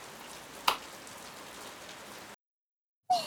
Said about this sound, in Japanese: 街中に移動してみたり、雨を降らせてみたり。